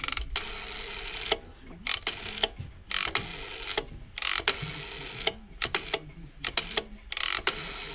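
An old rotary telephone dial turns and spins back, giving repeated bursts of sharp, bright mechanical clicking and whirring separated by brief pauses, with no one talking. The sound is archived at the Swiss National Sound Archive in Lugano.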